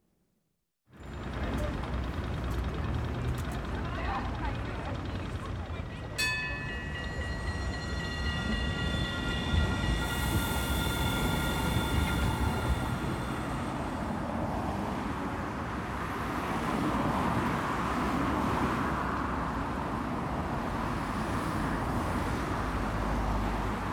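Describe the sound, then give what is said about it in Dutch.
A busy urban soundscape: a train rumbles steadily through with a sharp metallic screech and ringing squeal partway in, while broad traffic noise fills the background throughout. “Zo klinkt mijn favoriete stad.”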